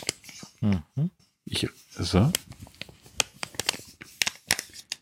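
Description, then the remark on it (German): A narrow, bulging envelope of high-quality paper is torn open with a finger, a run of short, crisp ripping and crinkling bursts following a few spoken words at the start. “Ich reiße jetzt hier also einen schmalen Umschlag auf, also einen schmalen, bauchigen Umschlag.”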